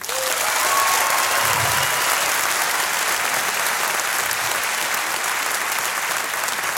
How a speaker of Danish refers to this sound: Den film, vi skal tage os af, I må gerne klappe, hvis I har set Blå Mænd.